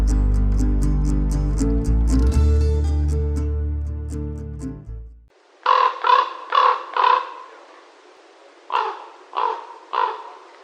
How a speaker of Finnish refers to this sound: Oriveden eräpyhällä kuultiin tänään korpin ronkuntaa.